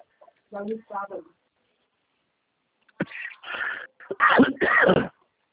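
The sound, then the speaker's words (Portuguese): A loud coughing fit: a couple of short throaty hacks, a pause, then a rapid run of four or five harsh, rough coughs in quick succession. “Ai, que tosse minha chata.”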